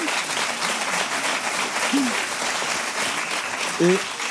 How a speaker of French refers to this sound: Oui, oui, applaudissements.